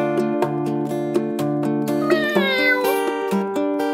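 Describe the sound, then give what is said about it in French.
A single drawn-out cat meow, bending up and then sliding down in pitch, rises over a steady, rhythmic musical backing with regular plucked beats. No one speaks. “Chat.”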